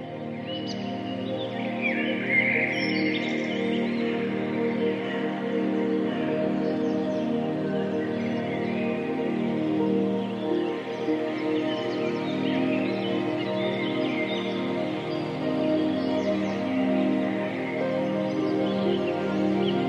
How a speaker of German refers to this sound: Selbstverständlich lässt sich Musik auch mit anderen Geräuschen, wie zum Beispiel Naturgeräuschen, kombinieren. Das Beispiel, das du gerade im Hintergrund hörst, das verbindet Vogelgezwitscher mit Hafenklängen.